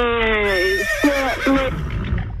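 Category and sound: animal, horse neighing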